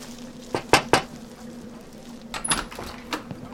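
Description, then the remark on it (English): Two quick, sharp knocks on a stranger's door, followed by a few softer knocks and faint rattling over a low steady hum. “Lord, we ask you to protect us from harm and provide for us as we're about to knock on this stranger's door.”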